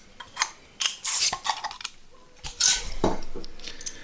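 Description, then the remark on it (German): Beer bottles being opened and clinked together: a run of sharp, bright glassy clinks and short hissing pops at an irregular pace, fairly loud, with no one speaking. “lass es aufmachen.”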